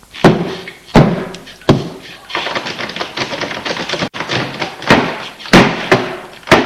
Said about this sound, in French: La police enfonce la porte.